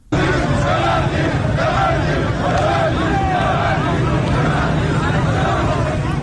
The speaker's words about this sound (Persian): ویدیوهای منتشر شده از این تجمع در ظهر روز یکشنبه در شبکه‌های اجتماعی نشان می‌دهد که گروهی از کسبه و مردم در خیابان با سر دادن شعار ببندید ببندید از صاحبان کسب و کارها و مغازه‌ها خواستند که به تجمع اعتراضی آنان بپیوندند.